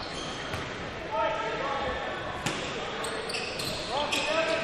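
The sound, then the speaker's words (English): A basketball smacks against a hardwood court a few times at irregular intervals, sharp, with sneaker squeaks and a steady arena crowd murmur underneath, as the Eagles inbound the ball under their own basket in a game against the Longhorns. “Slap of the basketball.”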